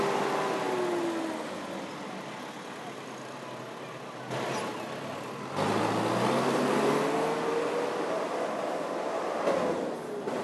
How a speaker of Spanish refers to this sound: Sin duda, es uno de los lugares más importantes de la Comuna 2 y también de los más concurridos. El sonido de las motos advierten lo contaminada que puede estar, pero casi al final se divisa un parque que ayuda a menguar lo denso que puede ser este